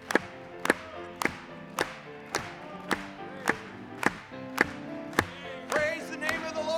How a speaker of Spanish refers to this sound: Vamos a aplaudirle. Aplaudámosle a él en esta tarde.